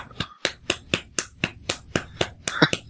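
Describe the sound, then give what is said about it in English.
A single person claps steadily away from the microphone, about eleven sharp, evenly spaced claps in under three seconds, with a slightly quicker flurry at the end and no talking. “I'll peek the microphone if I clap.”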